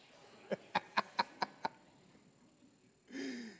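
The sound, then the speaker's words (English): A quick run of six sharp, evenly spaced taps, then a pause before people, asked by a speaker to do a cat, give a short, drawn-out imitation of a cat's meow, moderately loud. “Any putty cats? Two putty cats. Who's going to do me? Meow.”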